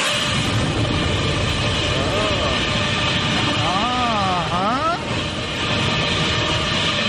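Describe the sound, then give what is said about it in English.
Godzilla's long, loud roar from the movie Godzilla: a harsh, rumbling blast that holds steady for about seven seconds, with a wavering, screeching cry that rises and falls in the middle. “Is that not a lot of a long roar?”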